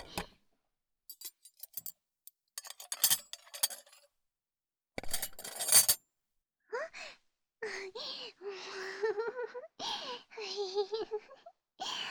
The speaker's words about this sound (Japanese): よいしょ。食器片付けちゃうね。